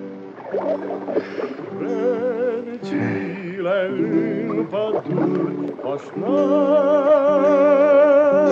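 A boatman sings his new song out on the water, his voice loud, holding long wavering notes in a slow melody, with no other talk.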